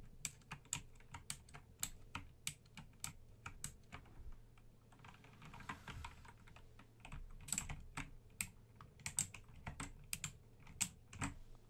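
Rapid typing on a computer keyboard by a hotel desk receptionist checking a guest in, a steady stream of crisp clicking keystrokes with brief pauses and bursts over a low background hum, with no one talking.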